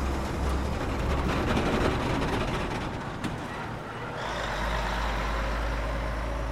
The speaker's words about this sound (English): A convoy of over 20 trucks drove past.